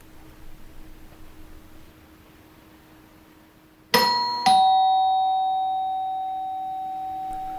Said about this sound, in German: Und dann klingelt es.